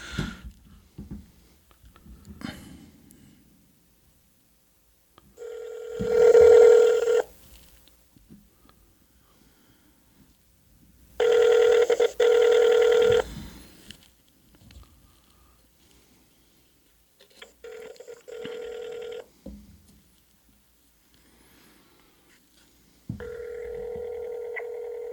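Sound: phone call ringing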